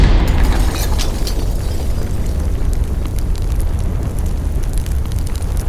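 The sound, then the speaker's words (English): A loud explosion in a darkened laboratory at night erupts at the start, then a heavy, deep roar of rumbling and crackling carries on steadily for several seconds, with no voices. “It was I who arranged the explosion, alone at night in Alex's darkened laboratory”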